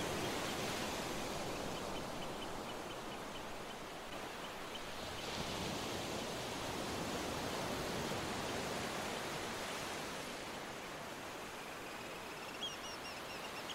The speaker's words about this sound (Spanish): Imagina cómo las olas van y vienen. La mar está tranquila.